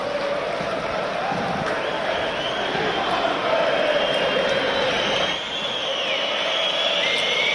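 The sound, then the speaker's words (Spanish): A large football stadium crowd chants an insult about Courtois in a sustained, dense roar of many voices, while others in the stands try to hush them; the noise stays loud and steady throughout. “Y luego, este grito de Courtois, estaba enlazando con el derbi, de Griezmann, muérete, que es el mismo grito que escuchamos la semana pasada en el derbi, en Anoeta.”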